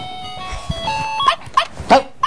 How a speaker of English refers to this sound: Dog, don't do barking all the time.